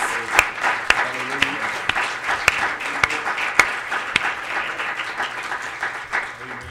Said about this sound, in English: If you love Jesus, and if you love your brothers and sisters, give him a hand clap of praise tonight.